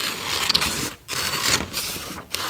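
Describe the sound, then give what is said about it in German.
Scissors snip steadily through fabric, cutting out bird shapes for a craft, a rasping, hissy cutting sound in long strokes broken by two short pauses. No one speaks. “Genau, und jetzt kannst du die Vögel ausschneiden.”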